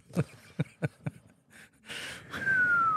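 Four sharp, heavy breaths puff in quick succession, followed by a longer, noisy hissing exhale with a faint whistling tone, and no talking.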